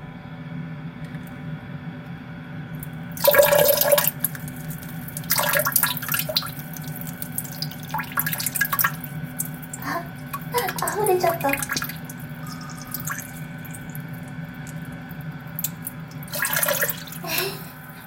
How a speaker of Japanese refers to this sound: それでは、トイレに到着しましたので、早速おしっこしていきたいと思います。よいしょ、出るかな。じゃあ行きます。よいしょ。